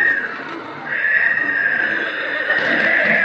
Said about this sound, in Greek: Να, δυο άλογα.